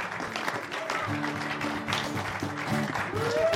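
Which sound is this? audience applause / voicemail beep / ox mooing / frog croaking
audience applause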